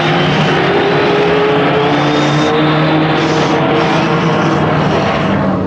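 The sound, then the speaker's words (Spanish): Loud, continuous roar of Formula 1 race car engines at the start of the final race, a dense droning whine that holds steady throughout with no pauses, dominant, with no voices. “Atención, atención, señoras y señores, atención, va a dar principio la carrera final con la Fórmula 1, los autos más potentes y veloces del mundo.”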